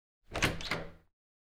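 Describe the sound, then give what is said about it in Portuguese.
The door on the right swings open with a short creaking, scraping movement lasting under a second, followed by silence. “O João vê a porta da direita a abrir.”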